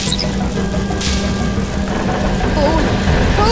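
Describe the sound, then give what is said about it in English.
Aircraft air brakes deploy with a short rushing whoosh over a steady, loud engine drone, followed by a continuous rumbling roar and faint whirring mechanical tones. “Are the air brakes working? I think so. Then deploy them.”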